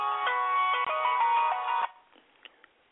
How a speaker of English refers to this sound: Excuse me, I got a call. Excuse me, I'm turning my cell phone.